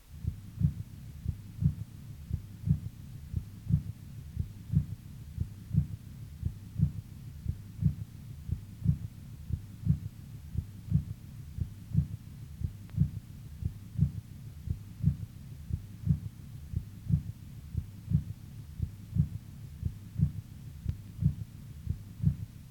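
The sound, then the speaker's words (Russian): Heart sounds with a third heart tone, recorded from a patient with heart failure: a steady low, muffled rhythm of repeated thudding beats heard through a stethoscope at the apex of the heart, continuing evenly throughout with a faint hum and no voices. “Прослушайте запись, сделанную у больного с сердечной недостаточностью.”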